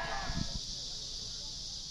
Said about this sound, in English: I'm not sure if you could hear those or not. What you're listening to are cicada bugs up in the trees really close to where I'm sitting in one of our major roads, Road 1 West in Chino Valley, Arizona.